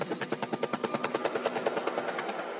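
A rapid, steady thumping of helicopter rotor blades chops along at a fast even rhythm, fairly loud, with a tonal hum running underneath, used as a sound effect in a music track.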